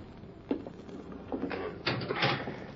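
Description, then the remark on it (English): A barred jail cell door swings shut on a prisoner with a series of metallic clanks and scrapes, several sharp knocks spread over a few seconds, with no voices. “There's the door unlocked, Thorne. In you go. Sheriff, inside. If you want to talk, you can talk through the bars.”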